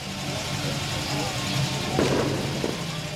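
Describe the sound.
A red Corvette's engine idles steadily at a car show at the Scottsdale Pavilion, amid outdoor crowd noise, with indistinct voices murmuring in the background and a brief clatter near the end.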